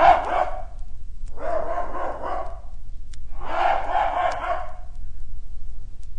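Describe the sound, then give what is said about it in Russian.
A hunting dog barks and yowls in three drawn-out, closely grouped bursts, loud, with a low steady hum underneath and short pauses between. “стал отличной охотничьей собакой, доверчивой и честной.”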